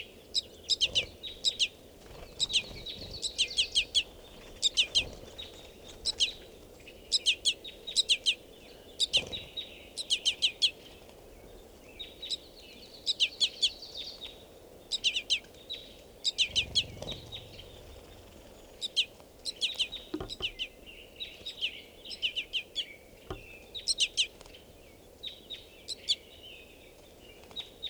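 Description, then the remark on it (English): A juvenile crossbill begs from a male crossbill, one of about 40 crossbills in a tree: persistent, high-pitched, insistent chips repeated in quick irregular bursts throughout, some louder peaks, with no talking. “Additionally, there's a baby begging from a male directly here. And the male's not calling, but the baby's begging.”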